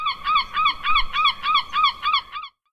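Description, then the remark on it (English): A seagull from Seattle, Washington calls in a quick, steady series of about eight harsh, nasal cries, loud with nothing else around, then stops abruptly. “One day, Wally was talking to a seagull from Seattle, Washington.”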